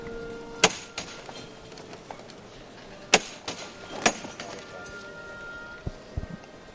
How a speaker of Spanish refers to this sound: Vuelve a sonar el martillo.